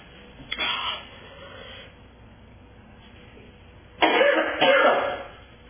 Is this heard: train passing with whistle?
no